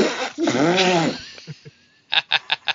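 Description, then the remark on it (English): A woman blows a long, wobbling raspberry by mouth, imitating a fart noise, that buzzes and warbles for about a second, followed by a few soft pops and a quick run of short spluttering bursts, fairly loud. “I'm a girl, I can't make fart noises very well, but that was my thoughts.”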